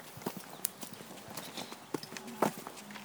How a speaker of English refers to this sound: So we're going to get to see some horse plowing